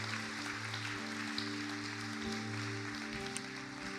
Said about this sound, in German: Hier ist etwas passiert im Jesuszentrum Kassel von Worshipern, von den Anbetern, die uns vorangehen. Lasst ihnen einmal Applaus geben. Das ist wirklich stark.